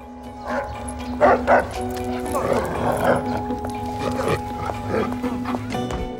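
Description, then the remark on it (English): A big dog barks at a woman walking past in sharp, aggressive bursts, loudest early on, over a steady hum and some background voices. “A large dog seems to take a dislike to her.”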